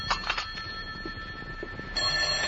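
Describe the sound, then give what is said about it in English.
An old-style telephone bell rings in rapid metallic bursts, moderately loud, with a steady high tone running through and no voices over it; a phone in an apartment in Hartford at 10:30 in the morning. “And that's where it stayed until the phone interrupted my first cup of coffee the next morning at 10:30.”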